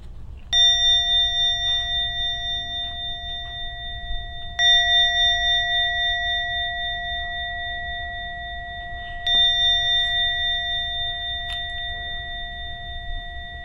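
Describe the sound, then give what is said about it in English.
A meditation bell is struck three times at slow, even intervals to mark the end of a meditation session, each clear chime ringing out and sustaining long before the next strike, with no voices and only a faint low hum beneath. “I thought I might beat the announcement, but the bell before the announcement.”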